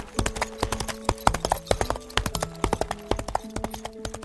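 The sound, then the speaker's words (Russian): Horse hooves of two saddled riders gallop in a fast, steady clatter of sharp hoofbeats, with a sustained musical tone humming underneath throughout. “оседлали по коню, взяли каждый лук, стрелу и пустились, что есть мочи, чтобы все успеть до ночи.”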